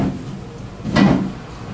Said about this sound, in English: Yes, the lady's just opened the door, hasn't she? To clean the table and chairs outside on the patio and balcony.